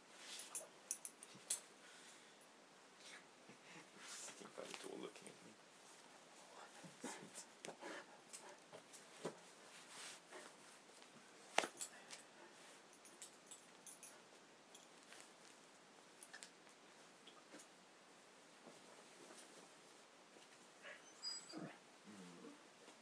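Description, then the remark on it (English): A dog whimpers softly on and off, with a few brief high yips, over a steady bed of rustling and scratching noises; the whole recording is quiet and no one speaks. “Are you a hungry hound? I bet you are, aren't you?”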